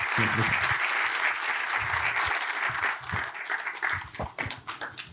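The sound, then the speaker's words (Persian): Sustained audience applause for a doctor after his talk, a dense wash of many hands clapping at steady loudness, with a few low voices murmuring underneath as it begins to thin out near the end. “آقای دکتر تشریف میارم پایین، ویژه تر تشویقشون کنید.”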